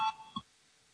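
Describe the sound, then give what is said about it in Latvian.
A short electronic chime rings out, two quick tonal beeps in succession, bright and clear, followed by near silence with a faint hum; it is the bell rung to call deputies to vote on proposal No. 78. “Lūdzu zvanu, balsosim par 78.”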